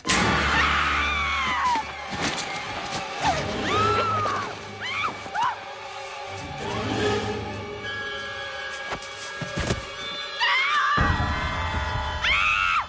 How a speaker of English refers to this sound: But when she screams, did you notice she screams like a 50-year-old woman?